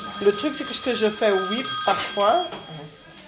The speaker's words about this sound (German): Ständig geht das Telefon.